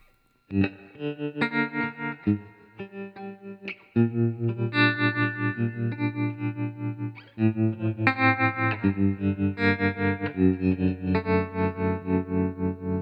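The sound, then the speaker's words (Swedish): A buzzy, distorted synthesizer plays a series of sustained notes, each pulsing in volume with a fast, steady wobble from LFO modulation. The pitch shifts every few seconds, and no one speaks. “Och nu, om vi då helt enkelt blandar in lite LFO här.”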